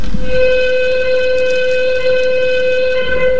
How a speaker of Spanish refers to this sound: La sirena que sonaba era el aviso para que podían empezar las blancas a mover la partida, poner el reloj en marcha y así arrancaban el juego.